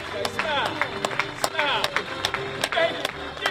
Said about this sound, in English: On cue, the men make their way to the other end of the room as pomp and circumstance starts up. The crowd of well-wishers stands, at first applauding, then cheering, with one man, a past graduate of the program, reminding them to smile.